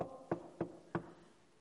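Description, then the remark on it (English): Three firm knocks on a door, evenly spaced about a third of a second apart, each a short hollow thud, followed by quiet with a faint background hum. “I stand at the door to knock.”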